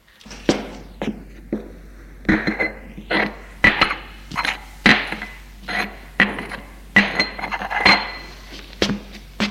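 Dishes and glasses clink and clatter in a steady series of sharp, bright knocks as two people set the table at home on a Sunday, with ringing glassy tones between the hits and no voices.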